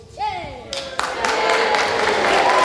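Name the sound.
audience cheering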